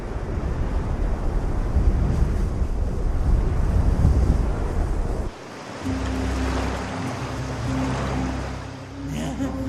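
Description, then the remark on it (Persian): Stormy wind roars with crashing waves in a loud, steady wash of noise. About halfway through, a low droning hum with a steady tone joins the rough surf. “خیلی خوب، به نظر میاد که تو طوفان میمیری.”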